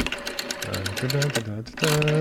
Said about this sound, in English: Well, we got this new 52K modem that's smoking. It really is. Almost there. Almost there.